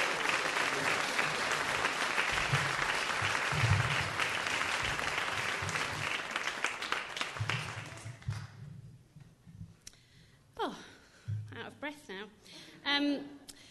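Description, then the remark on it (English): An audience claps loudly for some friends in a dense, steady burst of applause for about eight seconds, then it fades out and a voice starts speaking. “But thanks again once, and let's give another round of applause to our friends.”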